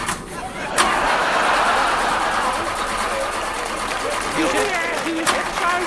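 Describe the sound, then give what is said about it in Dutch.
A super-economical car's engine turns over and catches under a second in, then keeps running at a steady, fairly loud rumble for several seconds as a couple set off by car to the Design Academy, with faint voices in the background. “En dan gaat het paar met een superzuinige auto naar de Design Academie.”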